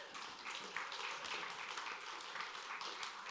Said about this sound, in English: We are clapping for Jesus. Don't be afraid to clap. I'm not afraid.